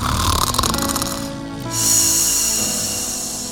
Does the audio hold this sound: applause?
no